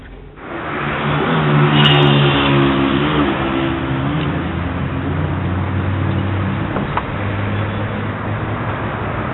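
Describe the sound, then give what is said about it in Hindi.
A car engine revs up loudly, its pitch climbing in a strong surge before settling into a steady, rumbling idle with no voices. “तुमने ये गाड़ी कितनी मुश्किल से खरीदी है, अब बेचना क्यों चाहते हो?”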